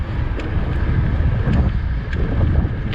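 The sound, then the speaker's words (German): Steady rushing wind and a low rolling rumble of someone riding a bicycle through Sasel, with a few faint, irregular clicks and ticks scattered throughout. No one speaks. “Mit mehr Reifen, ein Auto. Ein Fahrrad.”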